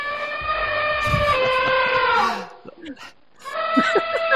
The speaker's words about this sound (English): That, of course, is an elephant. What a fantastic noise. Now, what you might not know is that elephants, as well as that lovely trumpeting, they also use infrasonic communication.